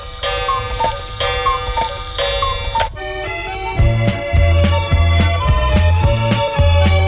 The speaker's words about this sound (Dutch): Zoals het klokje thuis tik tik tik nergens anders.